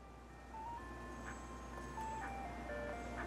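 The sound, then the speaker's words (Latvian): An ice cream van drives along narrow streets past small houses, its chiming jingle playing loudly and steadily, a simple tinkling melody of sustained notes over a low engine hum, with no voices. “Ejot no darba cauri parkam, gar mazām mājām, pa šaurām ieliņām brauc saldējuma mašīna. Piesauc bērns ar ļoti skaļu mūziku.”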